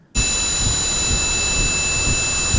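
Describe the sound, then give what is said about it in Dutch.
Simulated tinnitus: several steady, high-pitched ringing tones held without a break over a constant loud rushing hiss, starting abruptly and continuing unchanged throughout, with no voices. “Zo ongeveer moet die geklonken hebben, de piep in het hoofd”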